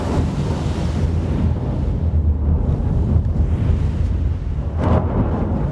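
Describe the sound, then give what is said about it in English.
The icebreaker Healy's engines are gunned in the evening as the ship rams its prow into a large ice floe: a heavy, continuous low rumble mixed with rushing, grinding noise as the vessel pushes through sea ice, steady and loud throughout with brief crunching bursts near the end. “He guns the engines and heads the prow toward a large ice flood.”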